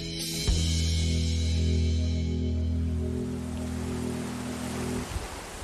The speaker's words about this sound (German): Das, was man hier im Hintergrund plätschern hört, das ist die Möll. Und für mich persönlich sorgt diese Geräuschkulisse als Stadtmensch für sofortige Entspannung.